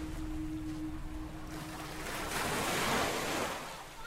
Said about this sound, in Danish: Alt var mørkt omkring mig. Det regnede. Og bølgerne slog mod stranden.